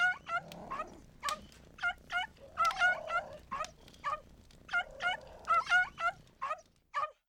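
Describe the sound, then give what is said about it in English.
A cat, Snowball, cries outside in the snow over and over, a rapid string of short, high, plaintive mews in two bursts with a brief pause between, with no voices. “Someone is crying outside.”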